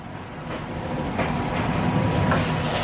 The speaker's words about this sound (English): I took the train from Minsk to Brest. It was a night train.